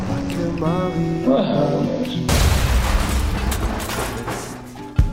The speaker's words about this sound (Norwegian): Her kommer eksplosjonen.